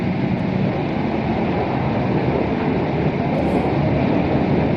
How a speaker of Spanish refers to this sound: Es el sonido de un carro minero o vagón minero que se volteaban de manera manual. En La Rioja, las minas de carbón mantuvieron su actividad casi 400 años, desde 1609 hasta los años 60.